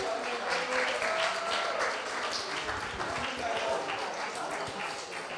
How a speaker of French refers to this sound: Moi, je propose qu'on les applaudisse quand même.